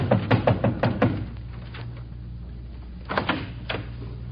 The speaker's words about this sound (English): I never knocked on Mike's door again. It was Mike who knocked on my door.